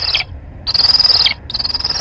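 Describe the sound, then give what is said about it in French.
A recorded black kite call: three high, quavering whistled trills with short gaps between, each dipping slightly in pitch at its end, fairly loud with no talking. “Ça, c'est le Milan. Ça, c'est le Milan noir.”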